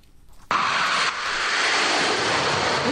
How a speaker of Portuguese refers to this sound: a Força Aérea Brasileira incorporou os primeiros aviões Gripen. São caças multimissão comprados pelo Brasil da Suécia